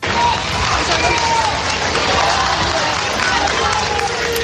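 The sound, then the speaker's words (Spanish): A large crowd cheers and applauds steadily for more than 4,100 Spanish troops marching in a military parade along the Paseo del Prado, Recoletos and La Castellana, a dense wash of clapping and voices that stays loud and unbroken throughout, with faint whistles rising above the din. “Vítores y aplausos en este caso y en todo momento para esos más de 4.100 militares que han recorrido el Paseo del Prado, Recoletos y La Castellana en un desfile que ha vuelto a cambiar de ubicación este año”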